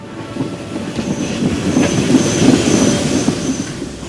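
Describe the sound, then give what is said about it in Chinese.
A special free train bound for McKinley's home in Ohio rumbles steadily along the rails with a dense low roar, faint rhythmic clacking and a thin high squeal from the wheels, continuous with no voices. “他们开通了免费的特别专列，直接通往麦金利在俄亥俄州的家。”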